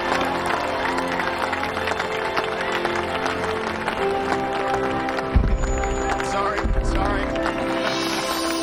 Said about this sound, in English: The lights turn on. Carol looks at Terry, smiles and applauds.